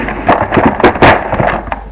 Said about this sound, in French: Entre dans le bureau de son père. Du bureau. Ouvre un tiroir.